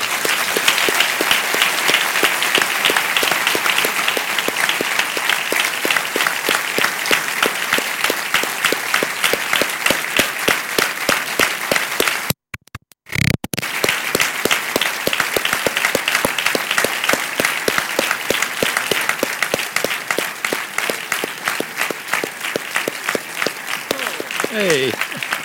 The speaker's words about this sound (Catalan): Ian Harlan, productor de la gran majoria de les pel·lícules de Stanley Kubrick, i Douglas Trumbull, probablement el mestre dels efectes especials més importants de la història de la ciència-ficció. Un fort aplaudiment per tots ells, sisplau.